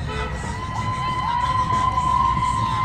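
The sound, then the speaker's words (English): A large outdoor crowd carrying posters cheers and shouts continuously at a rally against the deportation of immigrants without legal status, just off Main Street in Garden City, Kansas; a dense wash of many voices at steady volume, with a few higher whoops and yells rising above the roar. “Just off of Main Street in Garden City, Kansas, crowds of people carrying posters rally in opposition against the deportation of immigrants here without legal status.”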